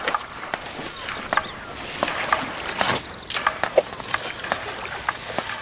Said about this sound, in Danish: Træpæle bankes i.